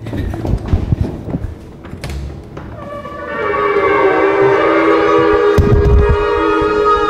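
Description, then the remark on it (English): About ten experienced synagogue shofar blowers sound their shofars (ram's horns) together at All Souls Unitarian Church to measure how loud they are: loud, sustained, overlapping brassy tones that swell in after a few seconds of scattered background clatter and hold steady through the end. “So shofars were the horns that apparently knocked down the wall, so we wanted to measure how loud they could be.”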